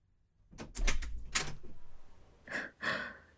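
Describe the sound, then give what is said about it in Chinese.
A key rattles and a lock clicks in a quick run of sharp metallic clicks as a room door is unlocked with a copied key, then the door is pushed open with two brief rushing, scraping swishes. No one speaks. “很抱歉，就这么直接进来了。你房间的钥匙是我前两天找人配好的”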